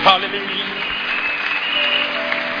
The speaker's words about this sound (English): Clap your hands for the Lord, everybody.